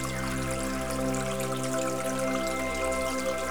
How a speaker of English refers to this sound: Gradually, as you continue walking, you notice that the sound of the water is getting louder.